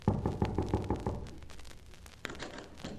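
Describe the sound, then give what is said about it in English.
A quick run of about half a dozen firm knocks on a person's door, evenly spaced, followed by a lingering echo and one later isolated thump. “Why don't you knock when you come to a person's door?”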